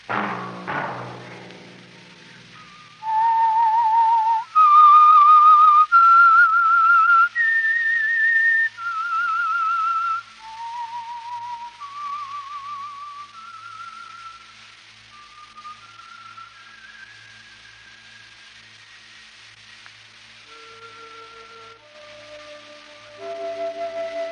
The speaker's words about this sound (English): Let that whistle be your signal for the Signal Oil program, The Whistler, each Wednesday night at the same time.